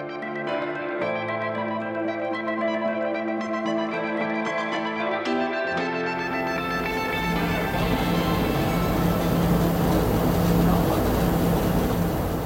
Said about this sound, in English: I love steam trains. I don't know what it is about them, whether it is the steam, the sight of them, the smell of them, the sheer power.